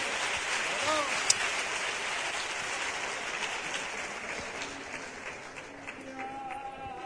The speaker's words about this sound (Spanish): Gracias. Un aplauso a ellos.